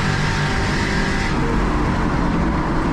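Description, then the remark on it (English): Race car engines roar and rev continuously, a loud, dense drone with a slight shift in pitch partway through and no voices, as cars drag race down the backstretch, Zach Walker on the inside and Tony Stewart to the outside. “Drag race down the backstretch.”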